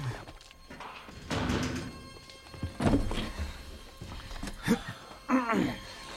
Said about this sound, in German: Und nun schließt die Tür.